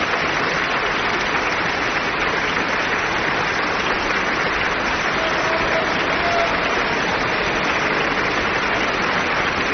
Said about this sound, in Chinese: 维也纳童声合唱团在全世界观众的面前完成了出色的表演，让我们为可爱的孩子们喝彩吧。